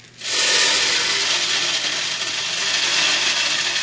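Corn kernels are poured slowly from a 5-gallon pail into a corn stove to stoke it, a steady, hissing rattle of grain that starts abruptly and keeps a dense, even rush for several seconds, with no voices.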